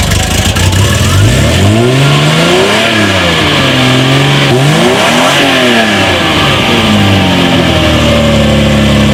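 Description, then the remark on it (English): A Ferrari Testarossa engine revs loudly at a cars and coffee meet, its pitch repeatedly climbing and falling in several throttle blips over a steady background roar, with no talking. “I brought out my Ferrari Testarossa, which I've had for a couple of years.”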